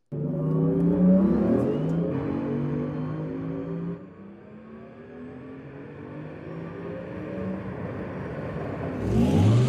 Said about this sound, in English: Take a listen to the sound of the new Macan EV.